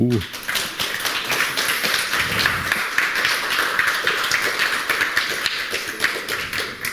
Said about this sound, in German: Wir machen erstmal Applaus für unseren Speaker.